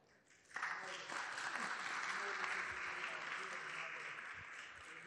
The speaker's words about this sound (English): You got to keep clapping for him.